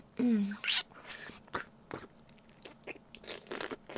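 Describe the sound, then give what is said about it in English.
Intimate wet mouth noises: irregular slurps and sucking smacks come in short bursts with quiet gaps between them, soft overall with a few sharper wet clicks. “All the lovely slurps. And wet sucks.”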